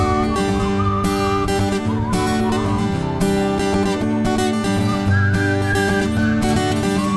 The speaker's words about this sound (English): Okay, we're going to ask if you can whistle with us. This gives us a chance to relax our smile muscles, because you can't smile and whistle.